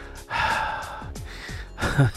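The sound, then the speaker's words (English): A voice imitates loud, heavy mechanical breathing like Darth Vader: a long raspy inhale followed by a rough, hissing exhale, with no other talking. “Somebody who breathes so loud and sounds like Darth Vader while breathing, especially when you're in quiet places.”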